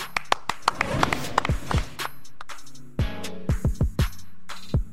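Loud, sharp claps in irregular bursts, some quick and clustered, others spaced apart, with a deeper thumping tone sliding down beneath several hits. No voices.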